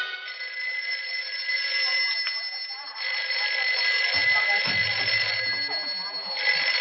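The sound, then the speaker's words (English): A telephone bell rings loudly, a steady metallic jangle that pauses briefly partway through before resuming. A faint low voice murmurs beneath it near the end. “Shove that phone over, will you, partner? Well, who are you buzzing on the Alexander Graham, Judge?”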